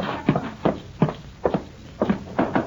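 Hooves of the horses Loco and Diablo clip-clop at a slow, steady walking pace as they are led around the back of the house, about two strikes per second, some landing as quick doubled beats, clear with no talking.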